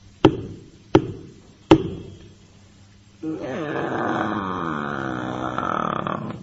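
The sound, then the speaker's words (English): Three firm knocks on the wooden door of a village house, evenly spaced, each with a short resonant ring, followed after a pause by a long, wavering creak as the door opens. “He knocked at the third house.”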